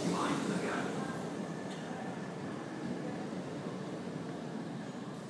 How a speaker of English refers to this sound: It's about to be blocked out by the train in front of me.